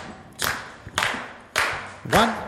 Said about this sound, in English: I'm going to ask that we clap this one together. It makes it a lot of fun and adds to the energy of this song.